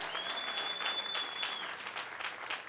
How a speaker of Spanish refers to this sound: Dale un aplauso al Rey y cree la palabra. Cree la palabra.